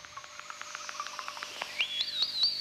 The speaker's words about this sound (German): 9. November 1991, der Versuchsreaktor JET in der Nähe von Oxford. Das Zwitschern der Sensoren signalisiert, dass im Inneren des haushohen Ringreifens ein 100 Millionen Grad heißes Wasserstoffgas wütet, im Zaum gehalten durch starke Magnetfelder.